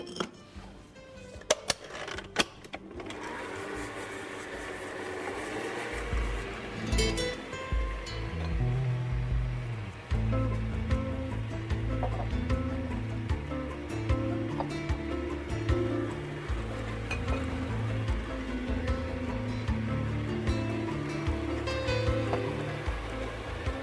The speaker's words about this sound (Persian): اما برای تهیه موادمون، ما در ابتدا کره داریم به همراه شکر درون کاسه همزن میزنیم و به مدت 2 الی 3 دقیقه میزنیم، یعنی تا زمانی که کاملا دونه های شکر محلول پر بشه.